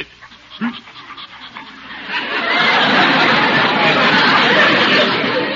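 A large dog pants heavily, quick raspy breaths building after a brief start and then running steadily and loudly to the end.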